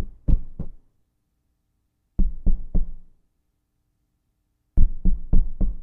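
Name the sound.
knocking on a door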